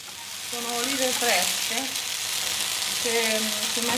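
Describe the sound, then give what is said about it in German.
Black olives sizzle steadily as they are fried in a hot pan, a continuous bright crackling hiss, with faint voices murmuring underneath. “Dazu brät sie in der Pfanne schwarze Oliven.”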